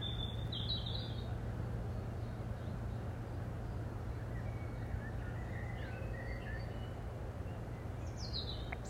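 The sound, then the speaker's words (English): Birdsong in short, bright chirping bursts at the start, middle and end, around ponds with irises, over a steady low hum of industry that runs through the whole recording. “Although there's a hum of industry in the background, the birdsong is still very much the primary sound that you can hear.”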